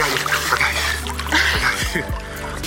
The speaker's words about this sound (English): slips off the kickboard and under the water.